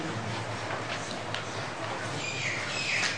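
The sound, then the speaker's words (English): Faint bird chirps come through a steady wash of background noise, with a few short high calls near the end. “Is that your friend out there? Is Jalandhar making that noise? Bird noises.”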